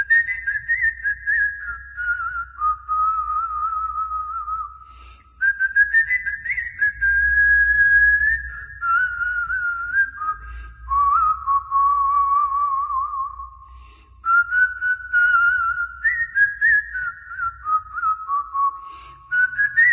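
A melody whistled with the lips, an old tune of the kind men used to whistle: a clear, pure tone stepping and gliding between notes in phrases separated by short breaths, steady and fairly loud over a faint low rumble.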